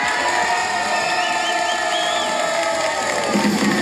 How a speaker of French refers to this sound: On va écouter un peu de musique et avant d'écouter cette chanson, je vous propose d'écouter les applaudissements du public qui est venu nombreux.